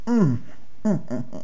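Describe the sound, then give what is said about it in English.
A voiced yawn after a stretch, with a long falling pitch, followed by two shorter, softer sighing sounds, clear with quiet in between. “Oh, and a yawn.”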